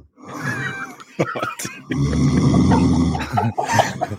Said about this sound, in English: So this is a video of him snoring. Absolutely knocked out.